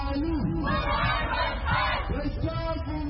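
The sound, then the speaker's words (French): Some dozens of protesters in the Bari neighbourhood, north of Khartoum, shout and chant together in a loud, continuous roar, demanding a return to civilian government. Several raised voices rise and fall over the dense, steady mass of yelling. “Ils sont quelques dizaines dans le quartier de Bari, au nord de Khartoum, à crier leur frustration.”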